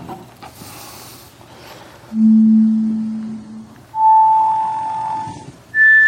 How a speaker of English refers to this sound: Cochlear now uncoils, and we look at the basilar membrane, and now see what happens when we play individual tones.